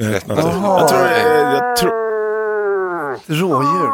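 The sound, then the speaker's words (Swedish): A man imitates a moose call: a loud, drawn-out moaning bellow lasting several seconds, then a shorter wavering call after a brief pause. The man is a moose enthusiast from Älgared. “Och det här är då, alltså, som vi hör, älgfantasten …, som är från Älgared”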